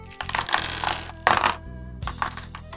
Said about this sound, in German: Wir würfeln in der Zeit weiter.